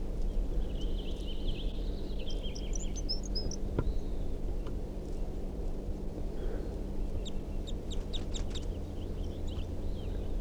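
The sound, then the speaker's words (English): Short, high-pitched chirping song phrases from a wild male crossbill in a tree come in bursts of several notes. A bird labelled 327 also gives song phrases. Heard over a steady low rumble of background noise, with no talking. “So recording, there's a male here. He's giving some song phrases, and 327 is also giving some song phrases.”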